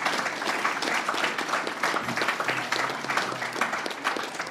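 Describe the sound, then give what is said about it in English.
A large convention audience claps steadily and continuously to show support for the speakers and session chairs, a dense wash of many hands applauding at moderate volume for several seconds, with no voices standing out. “They've presented vital and timely information, and I'd ask you to show your applause, to show your support for those people.”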